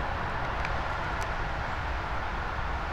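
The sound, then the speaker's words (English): A steady, unbroken roar of interstate highway traffic, a dense low rumble with a broad hiss on top, holding at an even level throughout with no voices. “What you are going to hear is the interstate noises.”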